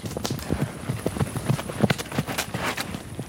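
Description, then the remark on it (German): Two ponies trot closer across a soft, lush green meadow in front of a house, their hooves making a quick, irregular clip-clop of muffled thuds, moderately loud, with no one speaking. “2 Ponys, die auf einer saftig grünen Wiese vor unserem Haus leben.”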